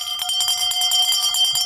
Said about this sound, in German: Das ist die Glocke der Schäferwagenkirche am Strand von Eckernförde.